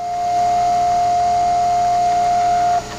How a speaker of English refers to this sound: In a room on campus, a 3D printer, the wonderfully named MakerBot Thingomatic, is melting a long string of white plastic filament, a bit thicker than fishing line, not quite as thick as the line in a weed trimmer.